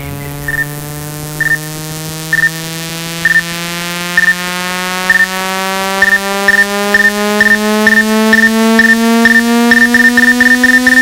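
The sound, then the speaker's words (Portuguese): A loud, buzzy midrange test tone holds steady while gliding slowly upward in pitch, punctuated by short higher beeps that repeat faster and faster toward the end. No one speaks. “Agora os médios.”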